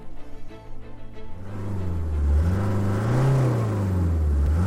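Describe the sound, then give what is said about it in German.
A black SUV's engine idles with a low rumble, then revs up and accelerates as the driver steps on the gas pedal in pouring rain, its droning pitch climbing and wavering as it grows louder and fuller. No voices are heard. “Er trat aufs Gaspedal.”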